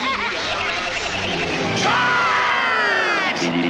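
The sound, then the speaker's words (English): A dense crowd roars continuously, full of overlapping shouts, yells and laughter at a steady loud level, with a rising whoop cutting through midway. “Well, it sounds like a crowd.”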